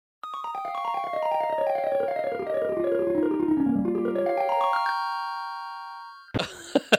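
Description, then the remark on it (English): Intro music from the video game The Legend of Zelda: A Link to the Past: a synthesized run of stepped tones sweeps downward in pitch, then climbs back up into a held bright chord, ending with a short noisy burst. “This is 100% the intro to The Legend of Zelda: A Link to the Past.”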